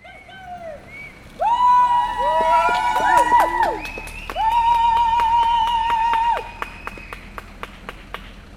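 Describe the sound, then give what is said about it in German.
A handful of supporters whistle in long, shrill, overlapping blasts that swoop up and down in pitch, backing a woman and a man holding out in an occupied tree as police clear it in Bern's Breitenrain district; a crowd murmurs with scattered claps, then the whistling stops and a few sharp claps continue. “Eine Handvoll Sympathisanten und Sympathisantinnen unterstützten die Frau und den Mann, die auf dem Baum ausharrten, mit Pfiffen.”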